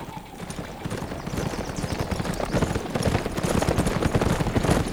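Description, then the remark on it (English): Many cavalry horses' hooves clatter as the cavalry arrives after a journey across the desert, a dense, rapid clip-clop that steadily grows louder, the overlapping beats forming a rumbling, continuous gallop with no voices. “Less than 30 minutes later, the cavalry arrived, led by Hawk, Jasper Meeks, and a gnome-like man with flaming red hair and a face only a mother could love.”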